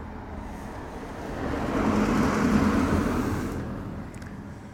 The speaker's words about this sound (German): Ah, jetzt muss ich kurz aufhören, da kommt ein Auto vorbei.